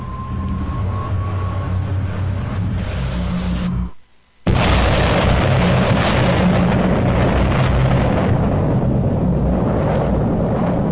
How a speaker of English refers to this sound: This is a 10 kiloton bomb, slightly smaller than was used in Hiroshima.